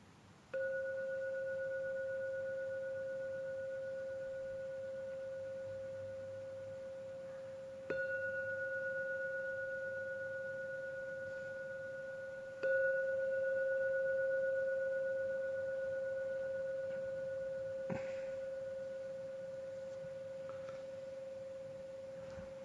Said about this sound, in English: I will now ring the gong 3 times as usual. At the end of the 3rd ringing of the gong, you may open your eyes to end the meditation after the 3rd ringing of the gong.